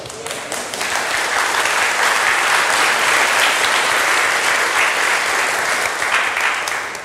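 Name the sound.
audience applauding in church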